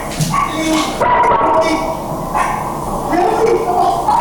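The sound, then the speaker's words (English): A dog barks several times in short, uneven bursts over a busy background of raised human voices and general commotion, heard in a bystander's cell phone video of the scene. “You can hear people shouting, a dog barking, then sirens approaching.”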